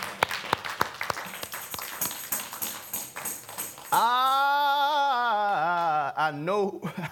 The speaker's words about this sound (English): Y'all clap your hands.